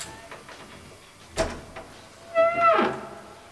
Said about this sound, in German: hängte die Kette vor die Tür und öffnete sie dann vorsichtig.